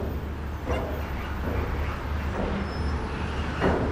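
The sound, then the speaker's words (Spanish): Steady low rumble of heavy traffic, with trucks droning past on a road by the Aire de Saint-Florent rest area in the Vendée, France, and a few brief swells as vehicles go by. No one speaks. “Veía pasar los camiones mientras comía.”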